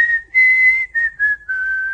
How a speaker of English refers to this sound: Listen. Do you hear what I hear? I hear a whistle floating across the rugged peaks.